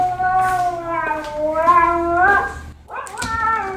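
A female husky named Didi howls loudly inside a house in long, wavering cries that slide up and down in pitch, one drawn-out howl followed by a brief pause and another rising yowl.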